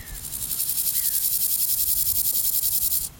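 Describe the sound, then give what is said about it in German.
Dense, high-pitched chirring from many grasshoppers of several species in a steady pulsing rhythm, continuous in the open air on the former taxiway of Tempelhofer Feld, black concrete slabs with grasses and flowers between them, before cutting off near the end. “Genau das ist jetzt das, wo die ganzen Heuschrecken sind.”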